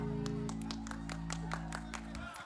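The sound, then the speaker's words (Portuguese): Audience applause for a man who has just sung with a band: a steady run of sharp claps, fairly even in rhythm, over a sustained low musical drone that fades out at the end. “Palmas pro rapaz, banda.”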